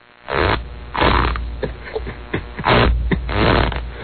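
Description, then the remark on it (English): A man lying on his back farts on command in a series of low, rumbling, sputtering bursts, each a half-second or so long, with brief pauses between them and steady low-end noise underneath. “Ladies and gentlemen, we're listening to a man who is farting on command on his back.”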